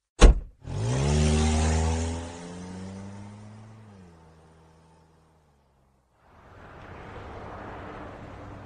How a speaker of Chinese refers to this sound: 仍然十分的焦急，一直保持着最大的车速行驶着。现在已经是凌晨了，公路上很少有车子还在行驶。